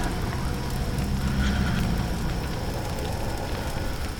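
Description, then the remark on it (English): A huge raging fire engulfing Mount Olympus roars steadily, a dense bed of crackling and low rumbling that holds at an even loudness for the full stretch, with sirens barely audible far off in the distance and no voices present. “You hear the sound of sirens way off in the distance, but you can barely hear them over the raging fire that's behind you that has engulfed Mount Olympus.”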